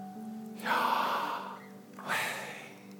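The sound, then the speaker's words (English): A long, audible inhale followed by a breathy exhale, both fairly loud, over a soft steady hum in the background. “I love the way that Jewish rabbis for many years talked about how Yahweh is the sound of breathing in and breathing out.”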